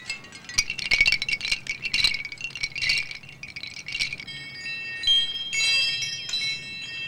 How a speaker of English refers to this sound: Different coloured and shaped wind chimes hang from branches in the trees in the hospital grounds.